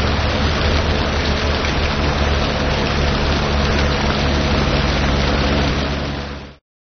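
Steady, dense rain hisses evenly for several seconds, a constant wash of patter with a low rumble underneath, then fades out quickly at the end. No voices.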